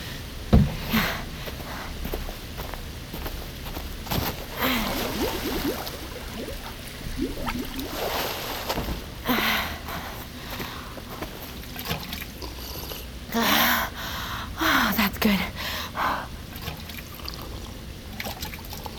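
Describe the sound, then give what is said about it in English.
Someone takes a taste of water from a container, with trickling and pouring sounds, soft slurps and occasional sniffs in irregular bursts. Nobody speaks. “Maybe we do a taste test first.”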